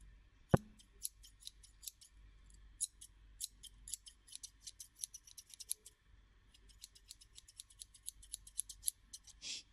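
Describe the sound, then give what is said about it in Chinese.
Scissors snip rapidly and steadily, a long series of crisp metallic clicks as someone's hair is being cut, with one sharper knock near the start and no talking. “你老实一点，信不信一剪刀下去你耳朵都没了。”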